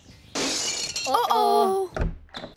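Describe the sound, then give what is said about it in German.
A house window pane, hit by a football kicked by children, shatters with a sudden, loud, bright crash and a spray of tinkling glass, then a voice calls out over the fading debris. “Ihr Rotzlöffel, ihr habt meine Fensterscheibe kaputt gemacht.”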